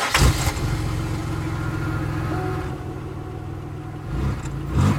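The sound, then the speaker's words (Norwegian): After a man gets into the car, its engine cranks and catches near the start, then settles into a steady idle with a low rumble, a second brief rev swelling near the end. No one speaks. “Frode slipper skuldertaket på faren og setter seg i bilen.”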